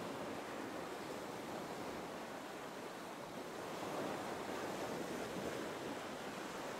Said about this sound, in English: Do you see the beach? Do you see the waves of the ocean?